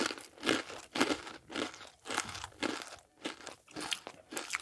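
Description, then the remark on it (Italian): Crunching of sweet, crisp cornflake cereal with milk being chewed, about ten crisp bites in a steady, even rhythm, loud with no voices. “Sono dolci e croccanti.”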